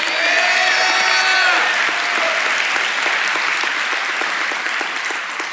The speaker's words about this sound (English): I know you're applauding her endurance, and she does too.